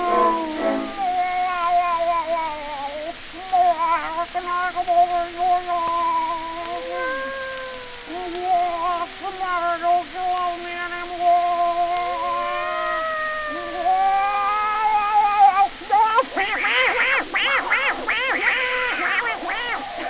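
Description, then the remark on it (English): A person's voice imitates a cat, drawing out a long series of wavering, sliding meows and yowls for about fifteen seconds, followed by a burst of noisier, harsher vocal sounds. “How do you like my cat imitation?”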